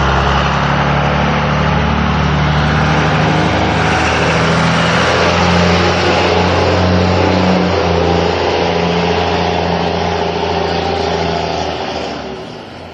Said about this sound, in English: That is a loud truck. That was, by the way, the most troublesome intersection of the rock, the three-way stop. I don't really know why so many people hit that intersection at the same time I do. Those diesel pickups are loud. Good Lord.